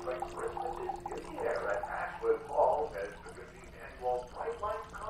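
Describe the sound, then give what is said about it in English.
Tea is poured into a cup in a kitchen, a continuous bubbling trickle of liquid, with faint indistinct voices murmuring in the background. “pours tea in the kitchen.”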